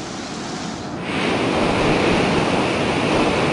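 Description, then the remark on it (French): Loud, continuous roar of storm-driven waves at sea, a broad rushing wash that surges louder after the first second and stays steady, with wind noise mixed in. No voices. “La tempête fait rage.”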